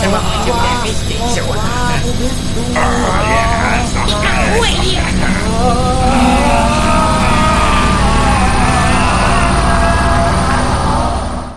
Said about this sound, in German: Ihr habt's gehört, ich habe eine neue Waschmaschine. Und natürlich habe ich da gleich mal mein Mikrofon reingehalten. Jetzt ist es erstmal sauber und ich habe euch ein paar interessante Einblicke in das intime Leben meiner Wäsche geben können.